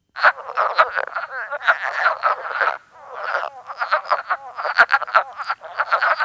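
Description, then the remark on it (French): A chorus of wood frogs, each about the size of a two-dollar coin, calls in rapid, overlapping clucks that sound like ducks quacking, continuous, with a brief lull midway before the chattering resumes. “Elle est grosse comme une pièce de 2 $ et son chant ressemble un peu au « coin-coin » du canard.”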